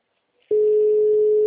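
A steady, loud single-pitch telephone line tone starts abruptly after a brief quiet moment and holds without a break to the end, with a faint hiss beneath it.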